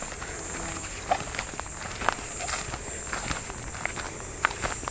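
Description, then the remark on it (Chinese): Soft, crunchy footsteps on a forest floor of pine needles among pine trees on a mountain trail, a steady walking rhythm of light crackles, with a constant high insect-like whine running underneath throughout. “这边松树多一点，就会有好多这个松针的地面了，走起来的感觉和声音就会不太一样。”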